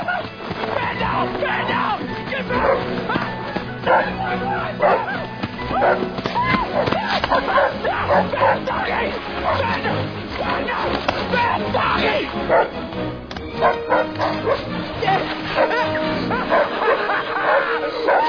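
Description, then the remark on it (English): A dog barks and yips excitedly and almost continuously, with occasional whimpering notes, loud. Faint voices may be mixed in. “Who made it in the tree, dog?”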